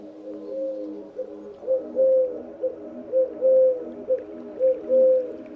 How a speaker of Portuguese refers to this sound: Esta tem andado por aqui à procura de sementes ou de um ou outro invertebrado. É uma das muitas rolas turcas que podemos observar neste ecossistema selvagem da Ria de Alvor.